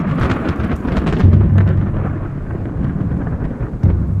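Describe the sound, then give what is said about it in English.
Deep, rolling thunder rumbles continuously and loudly, with heavy low booms swelling around the middle and again near the end, no voices present. “When he appeared, he communicated with them in the form of a thundering voice.”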